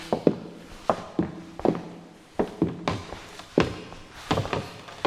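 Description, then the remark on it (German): Footsteps climbing a staircase up to the second floor of a house, a steady series of heavy, hollow thuds, with a few steps overlapping as if more than one person is walking. No one speaks. “Dort vorn führt eine Treppe nach oben.”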